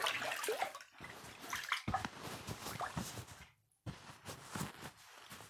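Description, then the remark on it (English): Water sloshes and splashes in a bathtub in irregular bursts of broad, hissy washing sounds, with a brief silent pause near the end before the splashing resumes. “The water's gonna get cold.”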